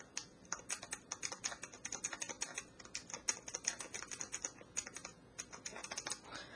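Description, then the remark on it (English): Rapid typing on a Braille Plus notetaker keyboard, a dense run of crisp, clicky keystrokes in quick irregular bursts, fairly loud, with no talking. “Now I'll type something on the Braille Plus keyboard just for reference.”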